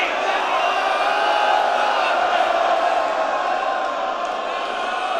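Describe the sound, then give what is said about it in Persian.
A crowd of women shouting and wailing together, a dense, steady roar of many voices that stays loud and unbroken for the whole stretch. “زنها فریاد بزنن، فریاد بزنید.”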